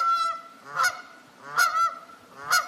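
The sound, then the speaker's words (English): Geese hanging out by the water on an island honk loudly in a series of about three to four nasal calls spaced roughly evenly, with some quieter honking from others in between and no talking. “Here's geese hanging out by the water.”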